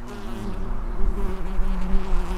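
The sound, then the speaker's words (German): Wild bees buzz steadily around knee-high, lilac-blue flowers, a continuous droning hum with slight wavering in pitch as several insects hover, with no voices. “Gucken Sie mal hier, das sind alles auch Wildbienen.”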